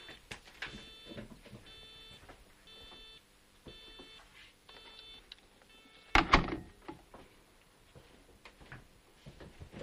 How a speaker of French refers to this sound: Alors attends, je vais aller essayer de régler, parce qu'il y a un téléphone qui fait quick quick. Ah oui, voilà, c'est vrai, j'entends.